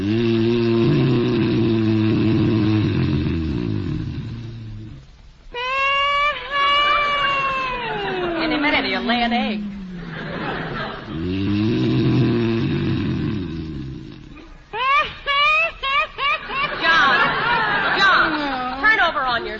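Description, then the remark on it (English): John Bickerson, husband in the radio comedy The Bickersons, snores loudly and theatrically in bed, each low, buzzing rumble followed by a high, wavering whistle-like squeal, repeated twice in a tight, exaggerated rhythm. “You can stop that snoring if you want to.”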